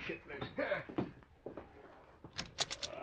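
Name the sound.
door being opened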